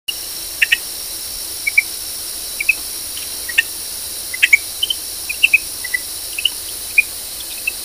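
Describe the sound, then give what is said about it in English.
Greenhouse frog calls from the Hillsborough River watershed in West Central Florida: quick, high, insect-like chirps repeating irregularly, often in close pairs, against a steady hiss of night ambience, with no voices. “Its call sounds like a small insect chirp.”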